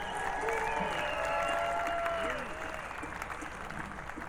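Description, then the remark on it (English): An audience at a concert applauds steadily for the band's guitar and keys player, a dense crackle of many hands with a few whistles or whoops rising above it, easing slightly in volume partway through. “Back there on the guitar and the keys, give it up for”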